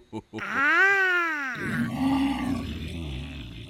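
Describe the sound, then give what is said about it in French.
A human voice imitates a tiger's roar: a loud, drawn-out, rising-and-falling vocal roar that breaks into a rough, gravelly growl before trailing off. “T'es qui, toi? Je suis le tigre.”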